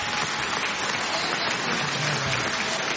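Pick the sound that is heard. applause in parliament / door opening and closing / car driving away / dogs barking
applause in parliament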